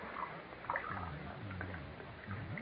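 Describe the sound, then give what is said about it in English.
Pet Milk eggnog is poured into a glass in a couple of short glugging bursts, moderately loud, over a muffled, hissy background with no talking. “Now, I'll pour some eggnog in this glass for you.”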